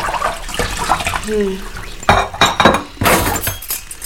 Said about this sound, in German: Ja, aber erstmal spülen wir ein paar Gläser hier.